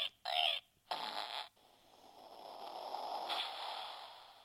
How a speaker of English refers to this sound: One of my amazing fans sent me Farts in the Wild, Jurassic Farts, and Farts, A Spotter's Guide. Do you want to hear a meerkat fart? I don't not want to hear a meerkat fart.